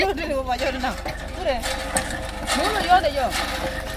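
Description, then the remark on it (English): Women in Leh talk and chatter over a steady, rhythmic mechanical churning as they pump water, the pumping noise continuous and low beneath their overlapping voices. “Women chat as they pump water.”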